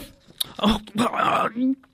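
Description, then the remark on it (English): A dog makes a few short, whiny growling vocalizations, three bursts in quick succession, with a sharp click early on and quiet between them. “I was talking to the dog.”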